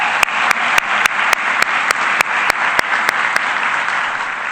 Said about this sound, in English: so we should give them all a big round of applause and say thank you.